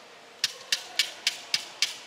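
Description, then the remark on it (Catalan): Six sharp, evenly spaced knocks ring out as a long pole, held vertically in one hand and reaching into the water, is struck to keep rhythm for a group of girls dancing in the water; each a crisp, bright wooden tap with a short decay over a faint background hiss, no voices. “pica en un pal llarg que sosté en vertical amb l'altra mà i que arriba a l'aigua.”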